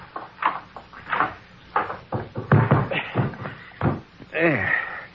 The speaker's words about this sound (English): Just open that closet door.